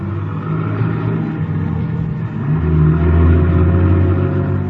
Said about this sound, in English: Then somebody enters the garage, eases into the car, and we start up.